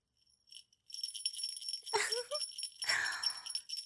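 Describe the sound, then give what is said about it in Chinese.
A small bell jingles continuously in a bright, shimmering patter, fairly loud, with a few brief softer sounds mixed in partway through. “现在铃铛声响了”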